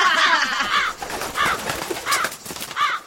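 crows cawing

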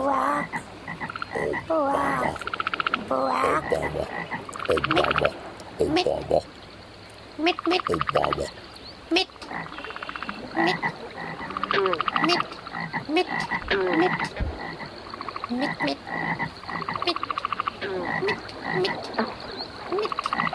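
frogs croaking

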